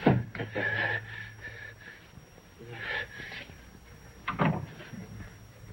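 A door opens and shuts as a man walks to it and leaves, with a few muffled knocks and scrapes spread over several seconds against a low background hum. No one speaks.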